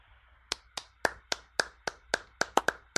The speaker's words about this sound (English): I was giving the golf clap before anyone.